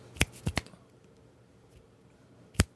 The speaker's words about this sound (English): I can't snap my fingers. Snap, snap. Now it works.